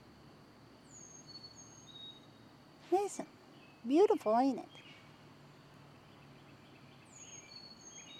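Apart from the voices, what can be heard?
birds chirping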